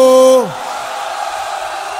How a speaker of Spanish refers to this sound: Así mismo, todo el mundo quédese gritando.